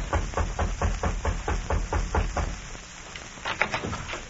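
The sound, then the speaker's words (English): A rapid, steady series of about ten hollow thuds as a man raps on the door of a little house in the frontier town of Pierre, Dakota Territory, followed by a quieter pause and a few scattered taps. No one speaks. “A man walked briskly up the steps of a little house in the frontier town of Pierre in the Dakota Territory and rapped on the door.”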